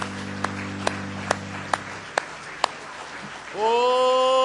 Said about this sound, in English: Somebody say praise the Lord. Let's give Him a real good hand clap of praise tonight.